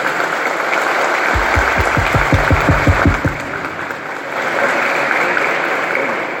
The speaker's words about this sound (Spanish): simplemente los primeros, los chicos, así que por favor un aplauso para nuestro futuro mañana, que son los chicos.